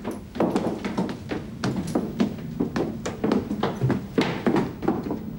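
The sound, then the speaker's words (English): Several people's footsteps thud and tap on hollow wooden steps in a steady, overlapping rhythm as a nun leads girls up a wooden staircase, moderately loud, with no voices. “She leads the girls up a wooden staircase.”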